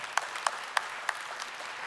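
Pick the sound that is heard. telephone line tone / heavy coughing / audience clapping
audience clapping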